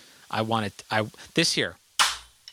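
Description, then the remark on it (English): A voice makes a few tonal, sung-sounding phrases, then a clap stack of three warped cymbals of different sizes stacked on top of each other is struck once: a sharp, trashy, bright crack that cuts off quickly, followed by a tiny tick. “This here is a fucking three warped cymbals on top of each other of different sizes called a clap stack”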